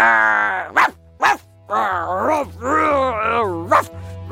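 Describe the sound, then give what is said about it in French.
A voice imitates an angry dog in a bad mood, with drawn-out snarling growls broken by a few sharp, loud barks, without other talk. “Mauvaise humeur, pas content, énervé, méchant, méchant chien.”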